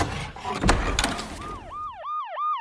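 police sirens

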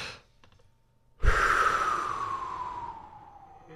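man yawning

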